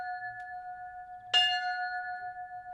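A small church bell rings out with a single clear strike partway through, its bright metallic tone sustaining over the steady hum of an earlier strike that lingers throughout.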